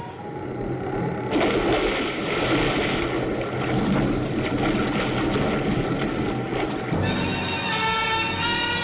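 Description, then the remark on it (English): A plane's engines roar in a loud, rough, steady drone as it flies very low over water in strong wind, then shift near the end into a strained, wavering whine as they cut out before a crash landing. No voices are heard. “There go the engines.”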